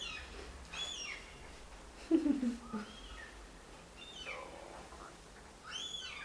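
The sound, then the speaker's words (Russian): A small bird sings in short, high chirping phrases spaced a few seconds apart, fairly faint, with a brief lower warbling call in the middle against a quiet background. “Птичка радуется тоже. Я раньше таких звуков не слышала.”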